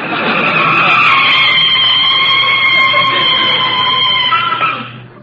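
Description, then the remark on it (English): A car brakes hard and stops in front of the house, tires squealing in a long, loud, high-pitched skid that holds steady for about five seconds before fading out as the vehicle comes to a stop. “You can start putting on the brakes.”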